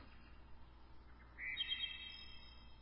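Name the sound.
birds chirping and calling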